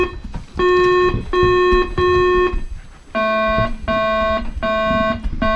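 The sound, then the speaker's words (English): Six electronic quiz buzzer tones as contestants test their buzzers, in two sets of three: three higher-pitched bursts, a brief gap, then three lower ones. Each is a loud, steady, evenly spaced tone with no talking. “Should we do a buzzer check starting over here?”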